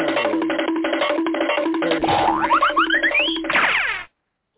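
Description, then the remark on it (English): A cartoon running-out-the-door effect: a quick, rhythmic patter of scrambling steps, then a series of rising whistle-like zips and a springy boing before it cuts off abruptly. No one speaks. “Hey, you want to do the cartoon running out the door?”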